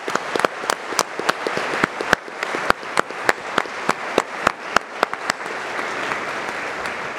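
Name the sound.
audience applause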